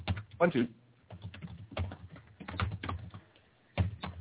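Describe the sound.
Rapid clicking of keys as a man types on a computer keyboard, in uneven bursts with short pauses, while a man's voice talks faintly underneath.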